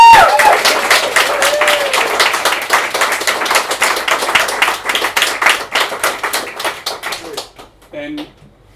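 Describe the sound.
A room full of people claps steadily for several seconds, a dense crackle of hands that thins out toward the end, with a few voices faintly audible underneath.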